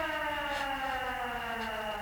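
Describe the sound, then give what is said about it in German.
A house burglar alarm siren wails steadily and loudly, a sustained high-pitched electronic tone with stacked harmonics and no pauses, sounding alone without any voices. “Wir sind hierher gekommen, weil wir den Alarm von Miranda Kramers Haus ausgehört haben.”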